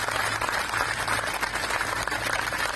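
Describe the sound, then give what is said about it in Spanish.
Steady applause from healthcare professionals, workers and patients at the Hospital Gregorio Marañón in Madrid, a tribute to the victims of the coronavirus: a dense, continuous patter of many hands clapping at an even loudness throughout, with no voices, over a faint low hum. “Y con ese aplauso han recordado a las decenas de miles de víctimas del coronavirus”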